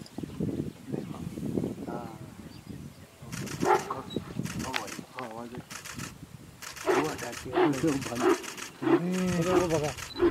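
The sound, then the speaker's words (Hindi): A bear lets out loud, harsh growling roars in several forceful bursts that grow more intense toward the end, chasing off two tigers, with human voices murmuring underneath. “भालू ने आवाज करके दोनों को डको भगा दिया, देखो खड़ा रह गया।”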